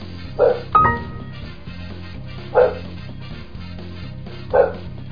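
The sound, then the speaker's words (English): A dog barks three times at a steady spacing, each bark a short loud burst, with a brief metallic clink after the first bark and a low hum underneath. “It's just a dog barking.”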